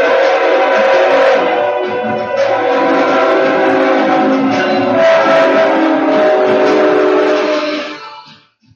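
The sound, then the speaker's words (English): A 2,000-ton train thunders down an avenue, its horn blaring in a loud, sustained chord for several seconds over the rumble of the cars before cutting off and fading away. “2,000-ton train of three barreling down the avenue.”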